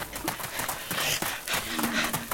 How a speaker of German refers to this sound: Also, dieses komische Grunzen hört sich schon ganz schön gruselig an.